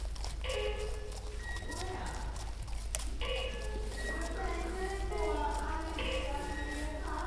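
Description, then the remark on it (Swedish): Horse hooves clop steadily across the floor of Karlslund's indoor riding arena outside Örebro, a rhythmic muffled beat, while beeps and whistling tones from guide beacons placed in each corner of the arena sound on and off, telling the riders where in the arena they are. “Vi gav oss av till Karlslunds ridhus utanför Örebro för att få se hur det går till.”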